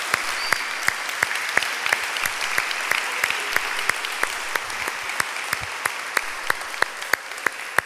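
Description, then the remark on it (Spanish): An audience applauds the Lord during an afternoon church service, steadily, a dense wash of many hands clapping with sharper, evenly spaced claps cutting through in a regular rhythm for several seconds, with no voices over it. “Damos un aplauso al Señor en esta tarde.”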